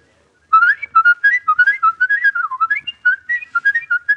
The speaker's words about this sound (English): Well, hey, let's hear some of this fabulous whistling.